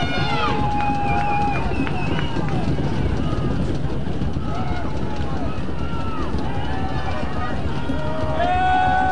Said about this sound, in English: Big play time for the Western Panthers. You can hear this crowd getting into it, rocking the bleachers.